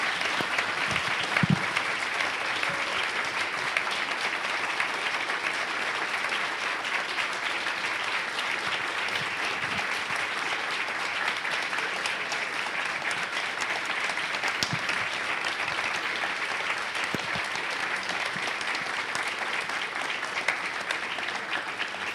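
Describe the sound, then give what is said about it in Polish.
A crowd applauds steadily for over twenty seconds in a library, a dense, even wash of clapping from many hands without pause. “Brawo dla nich.”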